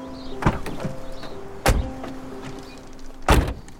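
People getting back into a car: three solid door-like thuds and clunks spaced a second or so apart, over a steady low mechanical hum, with no talking.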